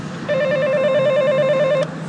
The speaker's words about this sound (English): I'm going to press the buzzer. I have keys. They do give me keys, but I'm going to press the buzzer just to let them know I'm on my way up the stairs.